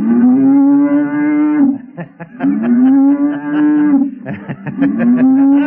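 An ox moos three times in long, loud, drawn-out calls, with short clattering knocks between the calls. No one speaks.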